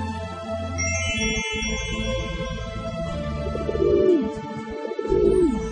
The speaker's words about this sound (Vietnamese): Đúng lúc đó, bà bỗng hóa thành chim bồ câu, vỗ cánh bay lên.